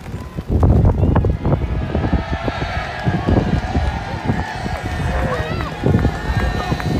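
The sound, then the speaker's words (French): Strong wind gusts steadily across the stands of a racecourse near Mont-Saint-Michel, a deep rumbling buffeting the microphone, with indistinct murmuring of about 250 film extras underneath, during the filming of the film Tempête on 20 May 2021. “Des figurants heureux d'être là, mais aussi du vent, comme on peut l'entendre dans cette vidéo tournée par un journaliste de Ouest-France.”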